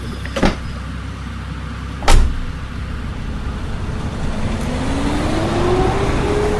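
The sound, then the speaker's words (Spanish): Two sharp car door thumps close together as a passenger gets in to be given a ride, followed by an engine that rises steadily in pitch as the car pulls away along a road at night, with a soft road hum throughout and no one talking. “Subí, dale, te llevo.”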